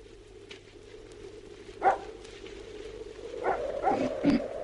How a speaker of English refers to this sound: You're that blooming dog. Something must have disturbed him. Yeah. Letting go, wasn't he? Yeah, certainly was.